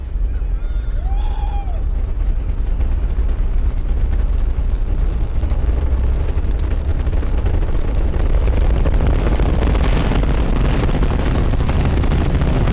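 Launch of NASA's Artemis 1 moon rocket, heard from 5 km away: four RS-25 engines ignite into a deep, continuous rumbling roar that swells as the solid rocket boosters join with their characteristic crackle, turning harsh and crackling toward the end. A brief high whistle sounds near the start.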